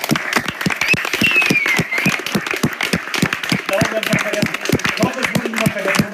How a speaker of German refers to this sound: Ja, und das ist auch der zahlenmäßigste, dickste Block von Leuten, die hier die Sachen möglich machen. Deswegen nochmal dicken Applaus.